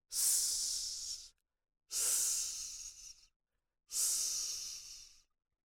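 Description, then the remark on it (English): A voice makes three long, steady snake-like hisses, the sound of the letter S, each lasting over a second, separated by short pauses of silence. The hissing is bright and sharp, with no talking. “Hello, I'm Sammy Snake. Listen to my sound.”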